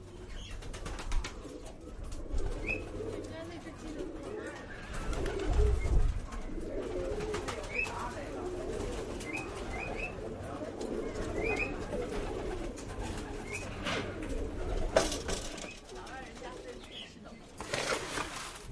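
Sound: pigeons cooing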